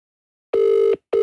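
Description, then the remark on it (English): A telephone ringing tone sounds down the line on an unanswered call: a steady, low electronic buzz in two firm pulses separated by a short gap, with no voices. “No one answers after that many rings, do they?”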